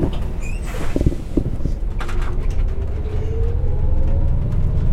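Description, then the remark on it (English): A steady low engine rumble fills a moving commuter bus on a 3-hour commute to Jackson. Rattles and clicks come from the cabin, and a motor whine rises as it accelerates. No voices are heard. “settles into her seat for another 3 hour commute, casually chatting with the bus driver about the previous day's delays.”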